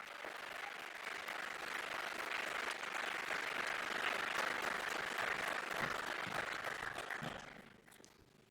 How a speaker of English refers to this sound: Thank you for making this event possible, and this is your applause.